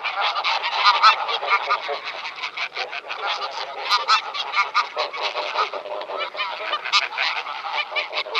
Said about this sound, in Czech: Podle hlasu by si mohl leckdo myslet, že jsme omylem zařadili hlas domácí husy, ale nejde o omyl. Naše divoká husa, husa velká, je totiž pramátí domácí husy a veškeré hlasové projevy mají obě husy zcela totožné.